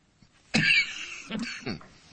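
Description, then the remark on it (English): A harsh cough bursts out, followed by a couple of rough throat-clearing rasps, fairly loud, with no talking. “I got a pocket full of cough drops.”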